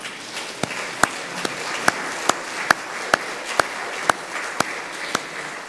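An audience in a Presbyterian church applauds after a song: a steady wash of crowd clapping with sharper, evenly spaced claps landing on a regular beat about twice a second, moderately loud, with no talking.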